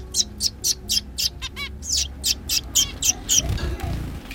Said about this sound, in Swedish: Vad är det där för fåglar? Zebrafinkar. Och när det är varmt och skönt ute så får de stå här under parasollet. De är jätterara.